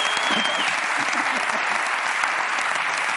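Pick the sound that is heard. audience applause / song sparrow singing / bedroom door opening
audience applause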